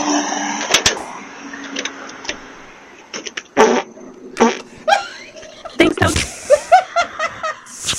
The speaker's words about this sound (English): And when your big sister has COVID and your mom tells you to bring a pot of homemade soup and leave it on her front porch for her, and she has a Ring doorbell, you bring the soup, you leave it on the porch, and then you squat over it and fart.